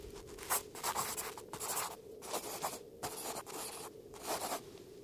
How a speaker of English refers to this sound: At home, Anak and Yanook write a letter.